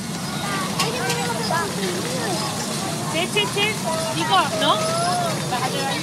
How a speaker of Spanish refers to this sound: Bueno, chicos, chicas jugando. Muchedumbre. Sí, ¿qué plaza? Puede ser. Ciudad. Ciudad, ¿no? Una plaza.